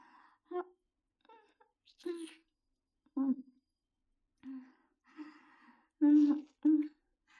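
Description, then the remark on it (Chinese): Breathy gasps and voiced exhales of heavy panting come in short irregular bursts, some sharp and loud, separated by brief quiet pauses, with no clear words spoken. “公子喘息的好厉害，是因为太舒服了吗？”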